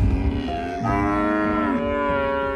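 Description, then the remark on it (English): Several cattle, from a herd of about 70 mother cows in calving season on a 400-acre cattle ranch in Texas, moo in overlapping, drawn-out bellows, one call after another, loud, with no talking. “We got about 70 head of mama cattle, and they're going through a calving season right now.”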